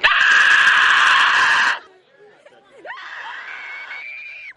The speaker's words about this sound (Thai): เสียงกรีดร้องและโหยหวนจากอาสาสมัครที่แสดงเป็นสมาชิกในตระกูลคราเวลแต่งตัวและแต่งหน้าสุดสยองโชกไปด้วยเลือดคอยหลอกหลอนผู้คนให้ตกใจแบบไม่ทันตั้งตัวในทุกซอกทุกมุมของบ้านครับ